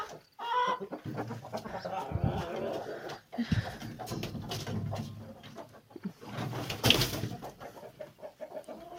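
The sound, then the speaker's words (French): Chickens cluck steadily as hens are let out through an opened hatch after grain is put down, with scattered squawks and a brief burst of wing flapping near the end as a second rooster comes down. “Le deuxième coq vient de descendre.”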